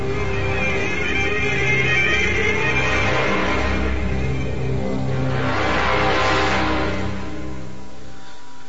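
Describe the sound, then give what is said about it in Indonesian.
A public minibus engine rumbles on the street at the end of an alley with a steady low drone, swelling louder about two-thirds of the way through as it passes, then easing off at the end. No one speaks. “Sesampainya di ujung gang, aku pun celingak-celinguk menunggu angkutan umum yang lewat.”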